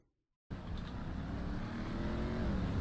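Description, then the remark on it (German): A video game car engine kicks in abruptly after a brief silence, then holds a loud, steady, gritty drone with a slight rise in pitch as it moves in reverse, with no voices. “Wieso willst du jetzt eigentlich das Auto da? Okay. Ich dachte, das andere Auto gefällt dir. Ja, perfekt rückwärts gefahren.”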